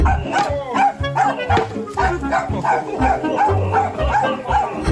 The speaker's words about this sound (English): But the dog is defending. The dog actually is being a bit of a dog by just barking but not actually getting involved. Warning, oi, you better stay away.